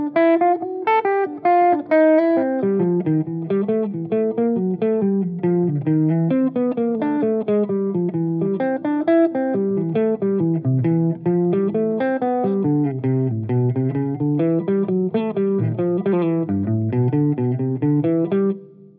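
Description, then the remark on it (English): An instrument plays a continuous improvised melody over a C major backdrop, notes flowing steadily and loudly for the whole stretch, with no talking. “So I'll play just over C major for, I don't know, ad nauseum.”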